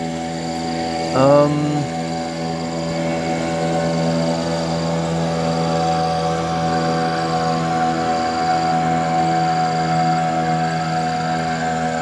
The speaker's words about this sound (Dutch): Komt weer een boot langs, wachten we even.